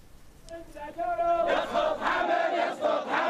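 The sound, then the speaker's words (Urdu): A large crowd of protesters in Bahrain chants slogans in unison calling for the overthrow of the Al Khalifa government, starting as a few raised voices and swelling at about one and a half seconds into a loud, dense roar of rhythmic shouting that carries to the end. “حالیہ دنوں بحرین کے عوام نے ملک بھر میں مظاہرے کر کے پہلے سے زیادہ محکم عزم و ارادے کے ساتھ آل خلیفہ حکومت کی سرنگونی کے نعرے لگائے.”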